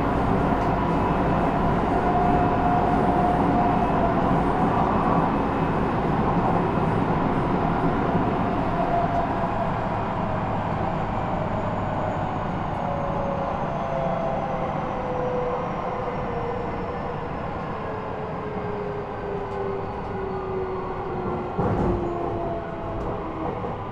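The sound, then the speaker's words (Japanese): A train arriving at Shiga station rolls along with a steady, loud rumble of wheels on rails, while a thin motor whine slowly glides downward in pitch as the train eases off; there is no talking. “お出口は左側に変わります。”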